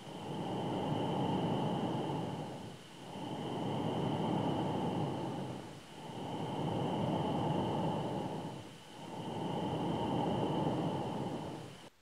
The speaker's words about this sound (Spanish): En otra región de la plasmasfera podemos encontrar algo llamado ondas Hiss o de siseo.